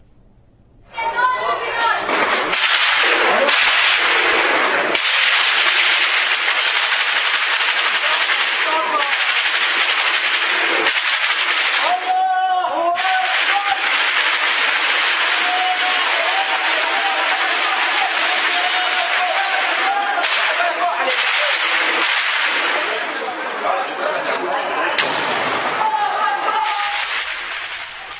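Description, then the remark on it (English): Gunfire rattles through city streets in Homs, Syria, in dense, sustained bursts, loud and nearly continuous, mixed with shouting voices and a rough, distorted din throughout. “The gunfire in Homs is reportedly nonstop now.”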